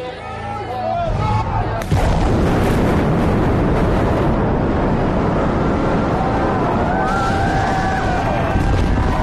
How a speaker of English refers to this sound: There were few amenities in Ballymun, and the suburb of shiny modernity quickly became synonymous with drugs and crime, which explains the cheer when the towers came down.